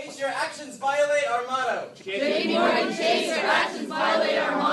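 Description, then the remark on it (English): A crowd of Occupy Wall Street protesters chants and shouts loudly in unison while disrupting a J.P. Morgan recruiting session at Princeton in 2011, their voices rising and falling in steady, rhythmic bursts with little pause. “one of the Occupy protesters disrupting that recruiting session.”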